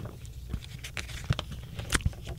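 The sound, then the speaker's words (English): Pages of a book with many pictures being turned, with several soft papery flicks and rustles spaced irregularly over a faint, steady background hiss. No one speaks. “There's so many pictures in this book, turning pages, it takes forever.”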